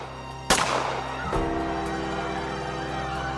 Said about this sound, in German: Diese Schüsse auf dem Petersplatz schockieren die Welt. Die Kugeln gelten Papst Johannes Paul II. Zwei Schüsse, aber drei Patronenhülsen.